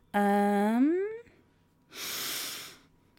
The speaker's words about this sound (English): Oh no! I did so well not yawning.